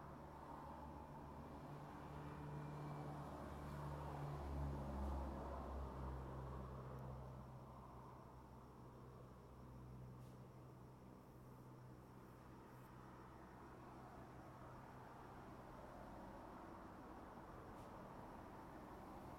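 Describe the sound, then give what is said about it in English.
Nighttime road traffic in Southern California makes a low, steady rumble, swelling in the first few seconds as a heavier vehicle seems to pass, then settling back into a constant faint hum with no voices. “I decided to say hello and let you listen to the nighttime noise, which in my case is just nothing but traffic.”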